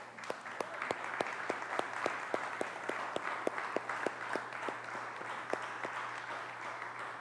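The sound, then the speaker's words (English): A crowd applauds steadily for all the mothers, dense clapping filling the room with a few sharper claps standing out, sustained at an even level for several seconds without any talking. “So can we just give a round of applause for all the moms?”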